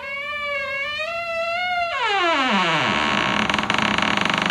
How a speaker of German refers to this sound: Ihr glaubt doch nicht ernsthaft, dass ich hier irgendeine Tür geöffnet habe. Das ist einfach nur so ein Soundfile auf dem PC. Hier, ich kann den immer wieder abspielen.